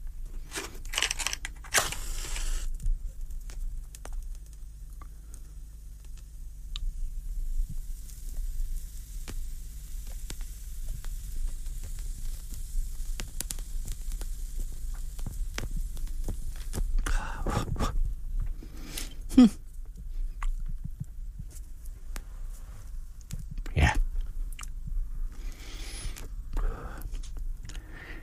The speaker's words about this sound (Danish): Nu skal jeg lige have ild på cigaren